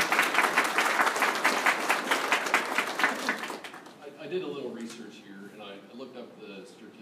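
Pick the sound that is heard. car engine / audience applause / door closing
audience applause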